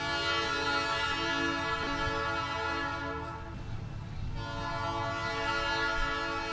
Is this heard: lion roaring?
no